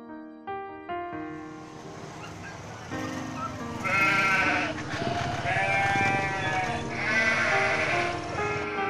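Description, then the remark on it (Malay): Several goats at a goat market, where goats are sold for Eid al-Adha sacrifice, bleat loudly, starting with a few short separate calls, then swelling into a dense, overlapping chorus of drawn-out bleats with a busy background murmur. “Aku memberanikan diri pergi ke pasar kambing dengan uang terbatas.”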